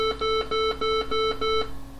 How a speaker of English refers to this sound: Completion of the backup was signalled by six loud beeps. Again, this could be heard all over the house. I made it easy to know what was going on and when the backup was complete.